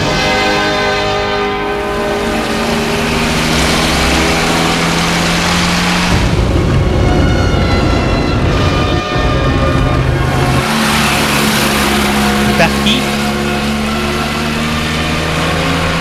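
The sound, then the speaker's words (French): The small engine of a red scooter drones loudly for the whole stretch, its buzzing pitch shifting as it revs up and settles, like the scooter pulling away and picking up speed on its way to Lyon. “décide d'aller à Lyon et s'achète un scooter. Un scooter rouge.”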